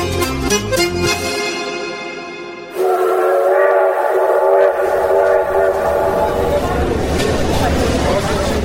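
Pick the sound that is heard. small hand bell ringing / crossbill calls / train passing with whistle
train passing with whistle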